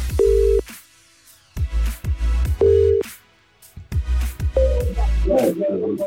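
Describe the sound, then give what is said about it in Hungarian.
A telephone ringback tone sounds in two steady bursts, loud, as a Petőfi Rádió host calls a listener to pass on a message, over a thumping rhythmic backing, followed by a brief higher tone and busier electronic sounds. “Viszont most fordul a kocka, mert én hívok valakit, akinek van egy átadandó üzenetem.”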